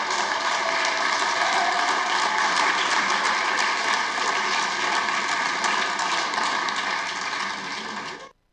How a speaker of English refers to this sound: Again, pay close attention to that clapping.